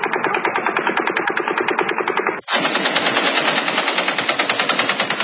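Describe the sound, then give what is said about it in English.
Sustained full-auto gunfire from two different firearms in two stretches: a steady, rapid string of loud shots from a smaller full-auto firearm, a split-second break, then a denser, faster-cycling burst from a belt-fed light machine gun, with no voices. “And then we've got footage from a mile away, close to where it happened, and you hear the same cadence, two different firearms, one that is a full-auto smaller firearm, another that is clearly a light machine gun, belt-fed.”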